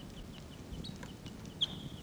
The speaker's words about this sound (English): so the wild birds are calling. And they sound like type 6s.